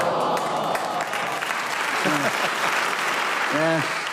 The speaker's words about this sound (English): That applause shows they do love your contributions